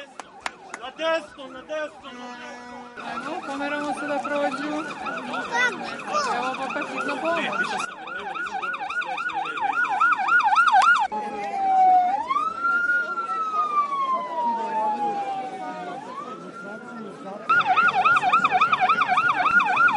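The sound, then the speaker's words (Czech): A loud ambulance siren on the Gazela bridge in Belgrade switches between a rapid warbling yelp and a slow rising-and-falling wail, then returns to the fast yelp, with faint traffic rumble underneath. “Obratite pažnju na zvuk kola hitne pomoći.”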